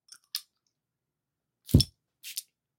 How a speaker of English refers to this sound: Hope everybody gonna love the scents. First of all, let's spray Jean Paul Gaultier Le Male Elixir.